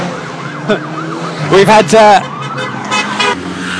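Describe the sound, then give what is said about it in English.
Busy street traffic in Norwich, England, as spectators wait for Tour of Britain cyclists to pass, with a wailing siren, then several loud horn blasts around the middle, while voices murmur in the background. “making grand headlines for being the first place where the Tour of Britain has had to wait for the traffic to clear before the cyclists can go through, which would be quite funny.”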